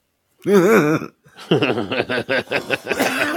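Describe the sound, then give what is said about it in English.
Someone stifles a cough: a short strained vocal hum, then a quick run of choked, rhythmic bursts held back in the throat, fairly loud. “I was suppressing a cough.”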